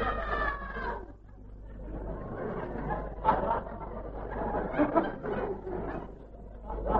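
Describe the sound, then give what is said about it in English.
A human voice mimics the call of a triple-throated wood warbler with a run of trilling, chirping notes lasting several seconds, set against a low murmur of background chatter. “You know, I've got a very good one of the triple-throated wood warbler.”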